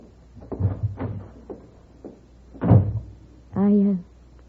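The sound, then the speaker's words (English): A door to the kitchen creaks open on a squeaky hinge and thumps shut, with a few soft knocks and shuffles around it. “Right through that door to the kitchen.”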